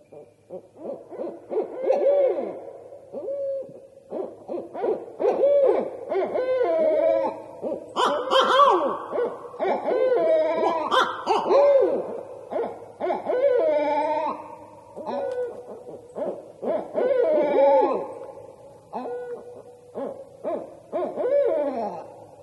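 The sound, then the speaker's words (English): Barred owls calling back and forth at night in a raucous, overlapping chorus of territorial hoots, cackles and wavering whoops that goes on steadily, with no talking. “I get a lot of phone calls and emails and letters from people who woke up in the middle of the night thinking something terrible was invading their campground when they suddenly were hearing barred owls.”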